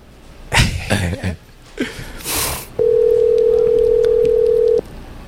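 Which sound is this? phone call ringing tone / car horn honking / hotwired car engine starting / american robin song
phone call ringing tone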